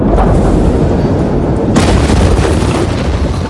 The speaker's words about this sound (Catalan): Això és la imatge o el so real d'aquella explosió de la que tu ens parlaràs ara, eh? Doncs sí, mira, el 4 d'agost es va produir una forta explosió semblant a una detonació d'una gran bomba al port de Beirut, al Líban.